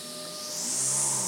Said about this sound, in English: And then all of a sudden, all this noise broke out. Him doing the hoovering in there, upstairs.